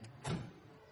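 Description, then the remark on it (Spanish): Someone climbs out of a car: a brief mechanical shuffle and muffled thump of the door moving, fairly quiet, with a low hum lingering after. “Sale del coche y observa la casa de Mickey que está frente al bar.”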